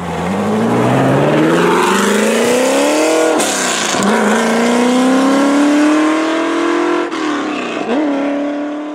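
The engine of a GT40 (Grand Touring) race car, 40 inches tall, revs loudly and continuously, its pitch climbing steadily through the gears with brief dips at gear changes, dominant with no voices.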